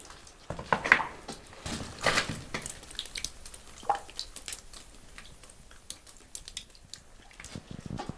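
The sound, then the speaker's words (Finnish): Babbling water trickles and splashes steadily, with irregular gurgles and brief louder bursts over a soft continuous wash; no voices are heard. “Toi veden ääni on semmoinen, mikä pysäyttää kyllä.”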